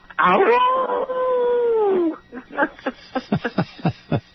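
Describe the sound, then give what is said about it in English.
A person lets out a single drawn-out coyote-like howl, rising then holding and sliding down over about two seconds, followed by quick speech-like chatter. “You're going to howl at Coyote.”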